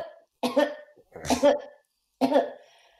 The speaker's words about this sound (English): it said that you need to cough 4 times. Is that a thing? But if that's what the instructions say, yeah, then I think we should do it. Please, always follow the instructions. I'll do my very pathetic four coughs. You do your four coughs? I'll do mine.